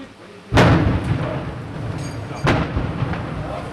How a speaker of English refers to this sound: Tank fire as well as gunfire could be heard all afternoon.